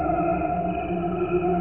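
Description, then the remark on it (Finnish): A recording of only crickets, slowed down to match a human lifespan with no instruments or voices added, turned into steady, layered humming tones that sound almost like a choir, sustained and unbroken throughout. “Niiden äänet on hidastettu vastaamaan ihmisten elinikää.”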